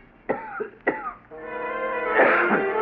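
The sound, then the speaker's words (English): A man on a cot coughs twice, sharp, then lets out a drawn-out, hoarse, rasping throat sound that trails through the rest of the moment. No one speaks. “I had just taken out my notebook and pencil to jot down an idea when somebody on the cot next to mine began coughing, and I turned my head.”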